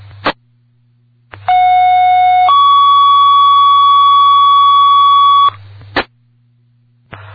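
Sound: fire dispatch alert tones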